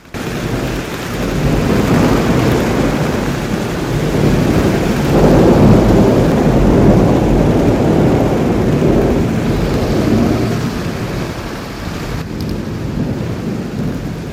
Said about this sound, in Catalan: Però vet aquí que va començar a ploure a bots i barrals, i en Patufet es va amagar sota una col que hi havia al camp del costat del camí.